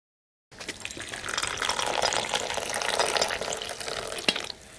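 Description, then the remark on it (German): Tea streams steadily into a cup for about four seconds as a 63-year-old man pours it in his kitchen in Falkenberg, a bright splashing pour that rises gently in pitch before stopping with a small clink. “Wie früher scherzt der 63-Jährige, während er Tee einschenkt.”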